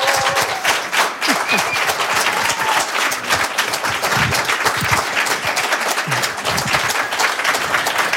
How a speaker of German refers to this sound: Einen großen Applaus bitte für Serhat Aktaş.